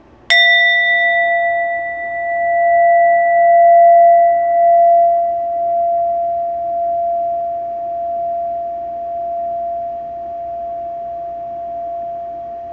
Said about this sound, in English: and listen to the sound of the chime all the way to the very end. See if you can hear the exact moment the chime ends.